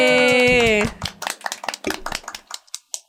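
A sustained, bright tonal note breaks off into a burst of quick, irregular hand claps, a small group's applause that patters on for about two seconds and then thins out.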